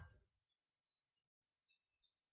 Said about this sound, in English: Sound of the birds, maybe.